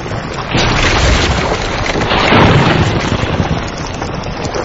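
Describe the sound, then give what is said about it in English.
A deep, continuous underwater rumble with crackling and hissing layered on top, loud, swelling slightly midway, no voices: lava burning at over 1,000 degrees Celsius hitting seawater below the waves, releasing steam. “As the lava hits the water, it's burning at over 1,000 degrees Celsius.”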